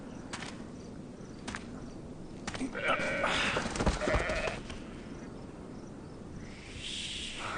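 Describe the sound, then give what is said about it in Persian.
A sheep, the best in the flock, being given as an offering to God, bleats once in a wavering, drawn-out cry near the middle, set against a steady outdoor hiss with faint insect chirring and a few sharp clicks. “این بهترین گوسفندی است که در گله داشتم.”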